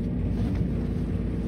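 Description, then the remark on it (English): An old lift descends deep underground with a steady, low grinding of gears, a continuous heavy mechanical rumble that holds an even loudness throughout, with no voices. “It was from a time before Muzak, so we were left with the grinding of gears as we descended further into the earth.”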